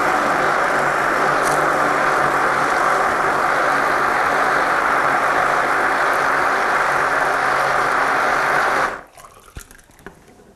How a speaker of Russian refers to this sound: Туда у нас отправятся распаренные овсяные хлопья, апельсиновый сок и кусочки апельсина. Ну, а теперь смертельный номер, как говорят в цирке, нам нужно будет блендером все это измельчить.